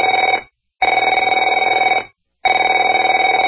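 A telephone bell rings in loud, rapid trilling bursts, about a second and a half each, separated by short pauses of silence, with no voices present.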